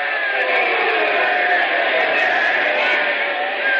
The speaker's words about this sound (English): Ladies and gentlemen, I see the St. Louis manager is up out of the dugout, and everyone is screaming and yelling.